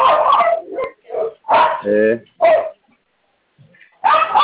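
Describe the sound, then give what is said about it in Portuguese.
Several loud barks from two or three small pit bull dogs, heard during a phone call, come in uneven bursts, one stretching into a whiny yelp, with a short quiet gap before a final bark. “É que eu não tô conseguindo escutar por conta do latido do cachorro.”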